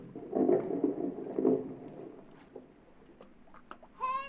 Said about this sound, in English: That's what I was doing the day that big speedboat and its passengers first came into my life. The motor was missing. It conked out just offshore.